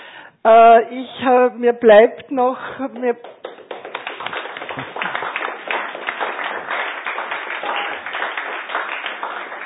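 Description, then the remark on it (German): A short burst of voiced speech gives way to an audience breaking into steady, dense clapping that holds at an even level until the end. “Ich wollte erst nachher klatschen, weil wenn wir klatschen gehen, dann meisten Leute schon weg und ich habe noch ein paar Ankündigungen zu sagen, darum hätte ich mir das aufgehoben.”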